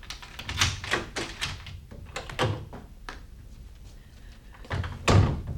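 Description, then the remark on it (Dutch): The only door of a house is handled with a series of clicks and rattles, then opens and closes with a couple of solid thuds, the last one the loudest. No one speaks. “En dit is de enige deur.”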